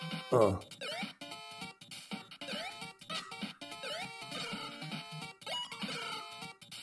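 A chicken-like video game creature, being hit, gives repeated chirpy, cat-like trills, short rising squeaks recurring every second or so over a dense, busy backdrop of game sound, with a loud thump near the start.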